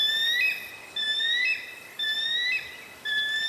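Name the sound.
bald eagle call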